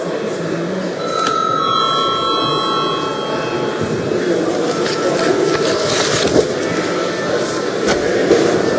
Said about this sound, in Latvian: Vai zvanu, lūdzu, vēlreiz zvanu.